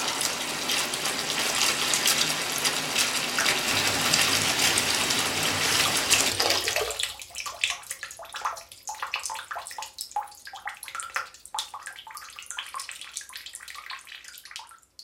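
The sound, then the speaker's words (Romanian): Water pours steadily and loudly from a tap for several seconds, then the heavy flow stops and only thin trickles and scattered splashing drips remain. “Oprește dracului robinetul ăla!”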